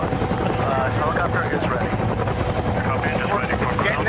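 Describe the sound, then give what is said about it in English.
A helicopter's engine drones steadily with a rapid, thudding rotor chop, loud throughout, heard from a camera placed inside the helicopter cabin, with faint voices blending into the roar. “Okay, put camera into position in the helicopter.”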